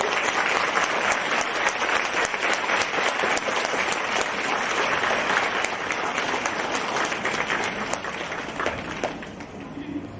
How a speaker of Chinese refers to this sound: 让我们用最热烈的掌声恭喜我们尊敬的卢军红台长。